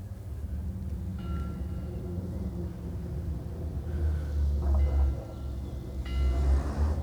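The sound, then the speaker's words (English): A car engine in the distance drones and revs as the car races about near the Solent, its steady low rumble swelling louder twice, with faint whining tones rising and falling over the background hum. “Some car racing about.”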